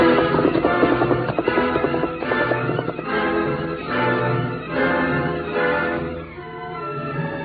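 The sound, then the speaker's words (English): Steady hoofbeats of the horse Scout galloping as its rider heads for town to get help, a rapid rhythmic clatter running the whole time beneath a loud, dense musical score that swells and fades slightly near the end. “He ran to his horse scout and, quickly mounting, headed for town to get help.”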